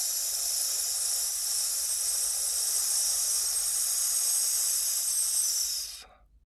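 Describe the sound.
In a breathing exercise, a person lets inhaled air out as a long, steady, bright snake-like "sss" hiss to check that the airflow is steady, holding an even loudness for about six seconds without fluttering, then tapering off quickly into silence. No one speaks.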